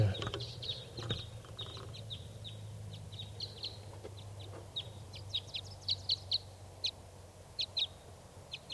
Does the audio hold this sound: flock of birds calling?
yes